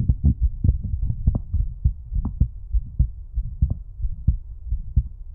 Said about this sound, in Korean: 심장소리가 뭔가 빠른가 봐. 긴장했나? 긴장할 건 없는데 왜 긴장했지?